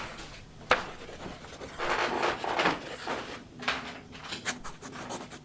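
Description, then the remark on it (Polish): A drawer that does not shut properly is handled: a sharp knock, then a few seconds of wooden rubbing and scraping as it is worked back and forth, ending in several small clicks and taps. “Nie domyka się. Nie zamykaj”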